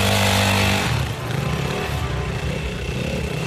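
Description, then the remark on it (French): A blue and white Yamaha Piwi 80 dirt bike engine revs loudly, its buzzing whine rising high before settling into a steady, rough idle-like drone for the rest of the moment. “Ma moto, c'est une Yamaha Piwi 80 bleue et blanche.”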